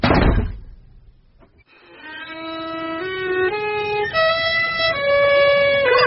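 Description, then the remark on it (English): A single heavy door slams shut with a loud bang that fades quickly. After a short pause, a loud, sustained wailing tone rises in pitch in steps, with no voices. “Quick, Fanny, open the door.”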